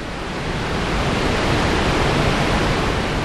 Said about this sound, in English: A waterfall roars in a box canyon deep in the Cascade Mountains. It is just after sunset on a July evening, and we're so close the waterfall's mist cools our faces.